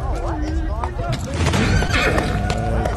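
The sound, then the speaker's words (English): A horse ridden onto a basketball court whinnies loudly while hooves clip-clop in a steady rhythm, with background voices and crowd noise mixed in. “Basketball court, normal stuff going on. And Jimmy Butler on a horse.”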